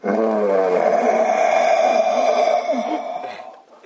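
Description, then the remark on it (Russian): A long, loud roar held for several seconds, rich and droning, then trailing off; it sounds like a human voice imitating an animal's roar rather than a real beast. “И вдруг раздался рев.”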